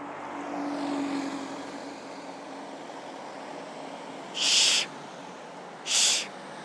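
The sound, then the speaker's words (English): Steady street traffic noise with a low engine rumble swelling and fading early on as a bus passes, followed by two short, bright hissing bursts a second or so apart. “Oh, all the traffic's drowning it out.”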